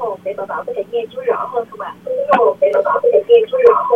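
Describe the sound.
A radio plays steadily through a narrow, tinny phone line, its voices and sounds continuous and fairly loud, with a couple of sharp clicks partway through.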